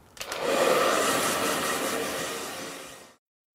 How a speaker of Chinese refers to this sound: 这是一台吹风机，我在吹头发。